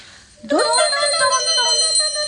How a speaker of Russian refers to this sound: Затряслись рассерженные колокольчики, ударяя друг друга в бока.